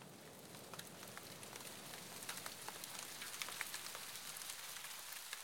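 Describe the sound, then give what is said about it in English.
Steady rain falls and patters, with scattered drops ticking sharply over a soft, continuous hiss. It sounds fairly quiet, with no voices. “Now, one rainy afternoon, an old woman came by.”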